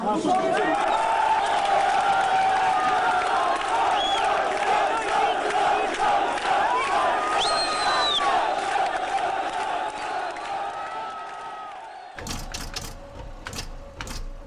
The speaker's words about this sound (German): Ein Übersetzer spricht ins Megafon. Satz für Satz übersetzt er ins Albanische. Dann bricht die Masse in Jubel aus.